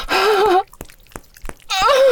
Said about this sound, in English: I hear you gasp with pleasure, girl.